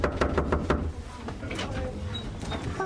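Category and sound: impact, knocking on a door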